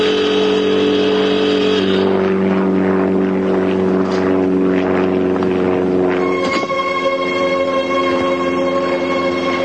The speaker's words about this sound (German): Sir, ein einzelnes Flugzeug nähert sich. Entfernung? 2 Meilen. Und kommt näher.